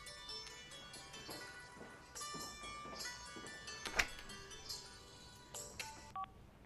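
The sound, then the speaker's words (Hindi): A run of electronic telephone keypad tones, short beeps pressed one after another in an uneven rhythm, fairly clear, with a sharp click partway through and no one talking. “मैंने कहा था ना मुझे फोन मत करना।”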